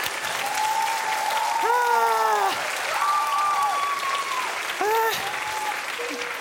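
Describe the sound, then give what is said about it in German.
A crowd applauds steadily and loudly for several seconds, dense clapping while a few voices whoop and cheer above it; applause for a person jumping on a trampoline. “Ich glaube, jetzt braucht es erstmal einen Applaus”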